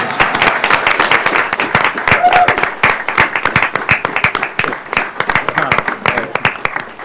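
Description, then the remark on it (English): A round of applause from a group at a public testimony session, given to a person who has just testified, with dense, irregular claps keeping up a loud, steady roar for about seven seconds, no voices heard over it. “Pittman, your efforts and your accomplishments are truly inspiring, and because I apparently have this authority, you're going to get a round of applause now, so thank you.”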